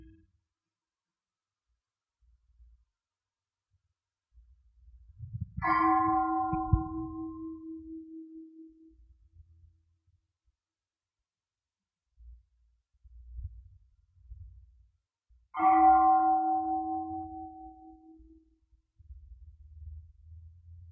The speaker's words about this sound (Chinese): 观察到了吗？龙婆停止讲的时候，我们听那个钟声的时候，有时候我们会觉知自己，有时候我们会跑去想，有时候跑去听钟声，我们的心没有跟自己在一起，有时候会觉知自己，一刹那又会跑去想了。